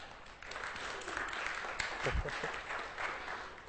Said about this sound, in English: I meant more kind of talk to him afterwards. Didn't need a round of applause, but yeah, whatever.